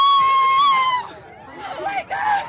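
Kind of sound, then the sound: crowd, crowd cheering and screaming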